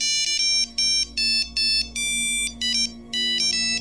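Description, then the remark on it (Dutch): A bright electronic phone alert for a voicemail message plays a rapid series of high, harmonic beeps in short bursts with brief gaps, steady and fairly loud, with no voices over it. “Een voicemailbericht. Dat zal Benjamin zijn.”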